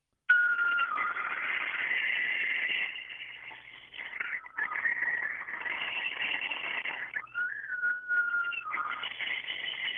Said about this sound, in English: And then afterwards, I put in the packs of coyotes, and this is literally at my front door. And so that's what I called in to let your listeners hear this.